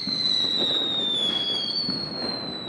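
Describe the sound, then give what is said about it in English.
A dense, continuous roar of many fireworks and firecrackers exploding at once across a whole city, late into the night, crackling without pause, with a steady high-pitched whistle running over the top. “the crescendo of fireworks rises to a thunderous roar that seems to engulf the whole city.”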